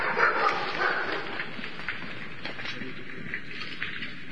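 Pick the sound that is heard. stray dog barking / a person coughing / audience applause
stray dog barking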